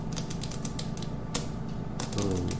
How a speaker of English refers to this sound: Sorry, and now I'm typing.